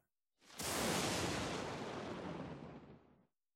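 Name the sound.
thunder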